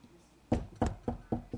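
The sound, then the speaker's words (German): Five firm knocks rap on a wooden door in a steady, slightly quickening rhythm, fairly loud, after a brief moment of quiet with no one talking. “Hörst du das Klopfen an deiner Herzenstür?”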